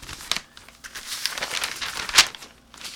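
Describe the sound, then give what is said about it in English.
Crisp rustling of newspaper pages, a continuous papery crinkle with a sharper flick or snap of a sheet being turned near the end, no voices. “Now let's see what we have in the paper today.”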